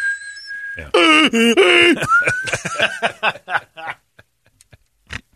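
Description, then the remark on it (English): A thin, steady high-pitched whistle, like hearing-aid feedback imitated by voice, holds for about a second, then breaks into wavering vocal squeals and a rising tone before choppy voice sounds fade out. “the whistling of the hearing aid was going.”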